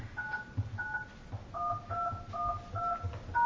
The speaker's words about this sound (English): Welcome to Lumen Conferencing. Please enter your passcode followed by the pound or hash key, and I'll connect.